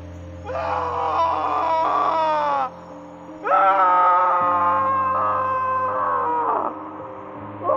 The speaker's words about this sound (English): Bones cracked like twigs, and desperate wailing faded into the drone of the mountain wilderness at night.